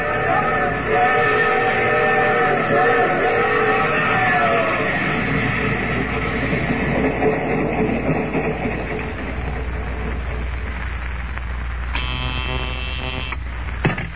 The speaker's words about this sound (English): Oh, the train's halted